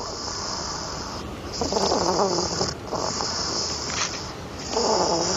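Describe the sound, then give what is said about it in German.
A deeply sleeping hedgehog snores in slow, raspy breaths, about three in a row, over a steady high hiss, with no voices. “über schnarchende Igel und Streifenhörnchen, die immer Hitze haben”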